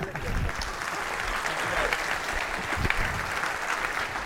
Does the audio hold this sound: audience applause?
yes